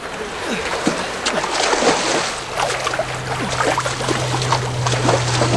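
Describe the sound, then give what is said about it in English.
A small liberty boat pulls away through choppy water, with steady splashing and sloshing throughout and a low motor hum rising in the second half. “Liberty boat just leaving!”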